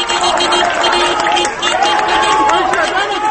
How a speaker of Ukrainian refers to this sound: Але згодом цей марш пам'яті перетворився в черговий протест проти результату нещодавніх президентських виборів, який опозиція вважає фальсифікованим. Люди почали сигналити, свистіти, плескати, мовляв, ми тут і будемо далі протестувати.